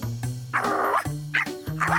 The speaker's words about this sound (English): What's on your head, Clifford? Whatever it is, it sure is noisy. Hi, guys. This is Dr. Din's new dog, Bob.